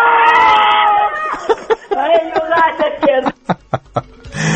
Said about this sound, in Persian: بچه های مسجد سلیمون یه نعره کشن